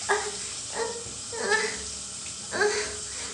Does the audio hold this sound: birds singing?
no